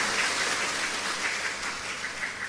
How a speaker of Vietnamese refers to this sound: thay mặt cho ban tổ chức, chúng tôi vô cùng cung kính giới thiệu, xin toàn thể đại chúng cho một tràng pháo tay thật lớn để cùng đón Đại Đức giảng sư.